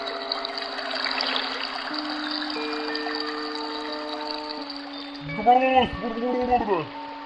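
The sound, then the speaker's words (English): A voice imitates a babbling brook with steady hissing, humming tones and a burst of warbling, gurgling sweeps near the end, moderately loud. “The Babbling Brook.”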